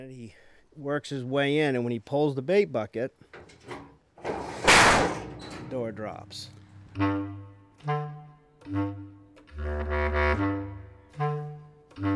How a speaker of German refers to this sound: Man schiebt die Tür hoch und hängt dann einen Eimer mit Köder an den Auslöser. Wenn der Bär reinklettert und an dem Köder zieht, fällt die Tür hinter ihm zu.